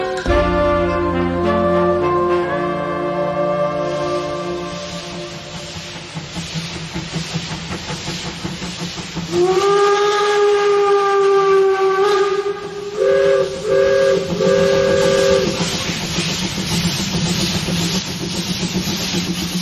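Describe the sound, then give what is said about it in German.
A steam locomotive's whistle shrieks in long, loud blasts, first a sustained tone, then a higher whistle and a few short toots, with broad hissing steam rushing underneath throughout. No one speaks. “Unser Zug war nicht weg, wir waren weg mit dem Zug.”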